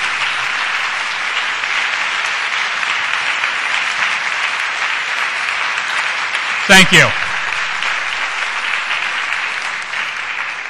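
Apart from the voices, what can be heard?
audience applause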